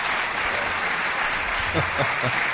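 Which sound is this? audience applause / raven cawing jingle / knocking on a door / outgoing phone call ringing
audience applause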